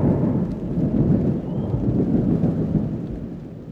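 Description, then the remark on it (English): A hurricane roars steadily outside, with wind, dense rain and deep rumbling thunder filling the low end, a constant loud wash of noise throughout with no voices. “Wind starting to rain. Yes, a hurricane outside”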